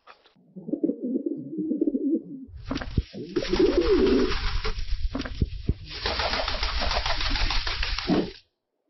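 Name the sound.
wild pigeon cooing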